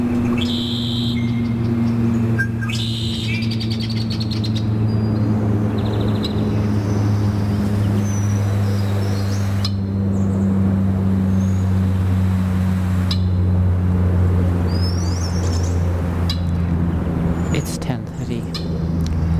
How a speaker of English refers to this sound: Birds' trills, chatter, check calls, and alarm whistles are heard over the distant drone of airplanes. Let me remind you that you are listening to a special 24-hour Earth Day broadcast of the soundscape from the Tuktuxin Marsh